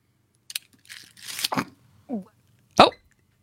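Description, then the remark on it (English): A woman coughs and sputters after something went down the wrong pipe: a few irregular raspy bursts and a strained, breathy gasp, ending in one sharp, loud hack. “I think she's just wrong pipe.”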